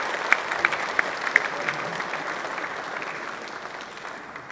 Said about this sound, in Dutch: We geven ze ook een fantastisch applaus.